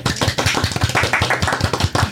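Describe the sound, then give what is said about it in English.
A brief spatter of light applause in a studio, with a handful of hands clapping in a quick, steady rhythm of sharp, even slaps. No one speaks. “A little applause, please.”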